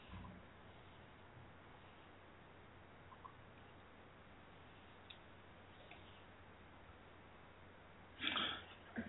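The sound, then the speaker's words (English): Someone blows their nose once, a short, loud, breathy honk near the end, after several seconds of quiet background hiss with a few faint clicks. “Sorry, I had to blow my nose.”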